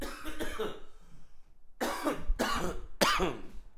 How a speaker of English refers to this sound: Anyways, so what I was trying, wait, I got to cough one sec.